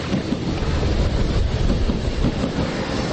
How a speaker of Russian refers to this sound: Линия скоростного метро, РОР, идет параллельно набережной, время от времени полностью выходя на поверхность, так что к плеску волн прибавляется этот шум летящих электричек.